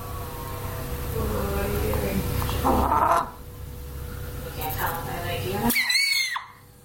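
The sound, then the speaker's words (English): A chicken sneezes twice, each a short sharp squeaky burst, over a steady background of clucking and squawking with a low continuous hum underneath. “So now you know what it sounds like when a chicken sneezes.”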